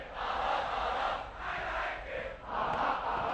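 A large stadium crowd sings together in loud, swelling phrases, three rising waves of massed voices about a second apart, with a steady roar of the crowd underneath.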